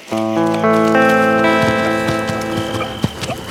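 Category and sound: animal, horse hooves clip-clopping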